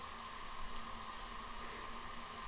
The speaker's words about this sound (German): Schnell ab unter die heiße Dusche und wach werden. Wieso wird das Wasser denn nicht warm? Nein, bitte nicht. Boah, ich will nicht kalt duschen.